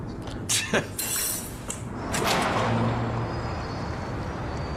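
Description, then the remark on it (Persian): Forks and dishes clink and clatter during dishwashing in a quick burst of sharp metallic knocks early on, then give way to a steady wash of kitchen noise with voices murmuring underneath. “هی اینا یه مش چنگالن.”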